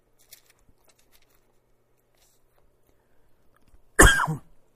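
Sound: cough and throat clearing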